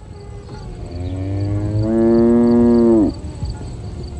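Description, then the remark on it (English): A single loud, drawn-out cow moo lasting about two seconds, starting low and swelling into a full, sustained bellow before cutting off, over a faint steady background hum. “The boys became afraid, and all the cows cried when they saw their beloved Krishna in trouble.”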